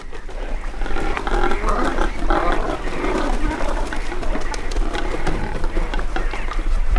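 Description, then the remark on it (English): A nesting colony of cormorants near South Manitou Island, on a shipwreck partially out of the water, grunting and croaking, many rough, guttural calls overlapping into a steady, dense chorus with sharp clicks and squawks scattered throughout and no speech. “only grunts. These are cormorants near South Manitou Island.”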